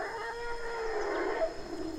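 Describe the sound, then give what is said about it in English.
A dozen wild forest elephants, grazing in a natural forest clearing several hundred yards long, call in long, drawn-out, wavering tones that carry steadily across the quiet clearing, with no voices present. “A dozen wild elephants are grazing through a natural clearing several hundred yards long and 150 across.”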